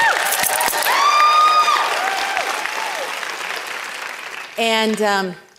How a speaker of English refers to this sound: So thank you guys up there. Can you guys give a round of applause to our AVL?